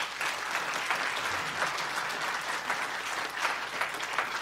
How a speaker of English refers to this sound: How about a round of applause for all these men?